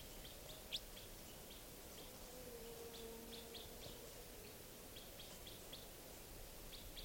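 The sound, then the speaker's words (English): A juvenile wild bird that has been coming down onto the cages calls in short, high chirps repeated at irregular intervals, one sharper and louder near the start, the rest faint against a steady background hiss. “Bring that wild bird. The juvenile is still around.”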